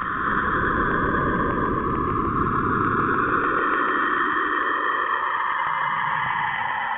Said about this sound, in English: Now, last week we also ran a story by Chris Joyce about the sounds that the planet Saturn makes.